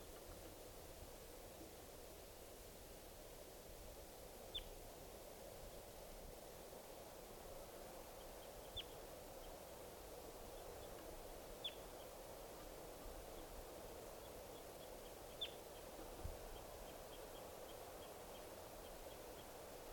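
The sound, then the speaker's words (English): Several short, high-pitched calls of wild birds coming down ring out a few seconds apart, each brief and sharp, over a constant hissing, rushing background noise. No one speaks. “These are the calls of the wild birds are coming down.”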